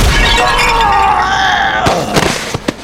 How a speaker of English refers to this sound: A pretty noblewoman smashed the back of his head in with a planter.